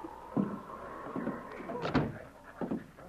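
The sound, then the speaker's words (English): A Mountie opens the door to an office off a cafe's long bar room, with a series of soft clunks and rattles spread over a few seconds, a faint steady whine running underneath, with no talking. “He strode through the long bar room, looking neither to the right nor left, and opened the door to Broderick's office.”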